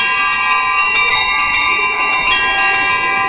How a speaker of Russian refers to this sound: На открытии выставки устроили перезвон небольших церковных колоколов.